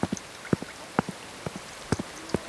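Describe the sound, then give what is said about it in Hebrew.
Scattered raindrops fall in sharp, irregular taps, about a dozen over a couple of seconds, fairly soft, with no voices, landing on the body of a person walking along a street toward the beach. “טיפות הגשם פגעו בעוד ועוד מקומות על גופי”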